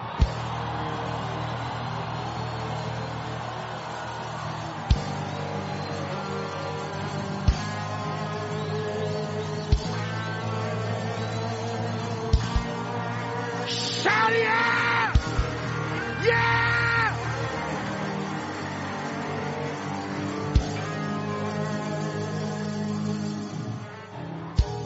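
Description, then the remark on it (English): A large audience screams and shouts together with open mouths in a sustained, loud roar, with sharper bursts of yelling rising midway and a low steady rumble underneath. “Now open up your mouth and scream.”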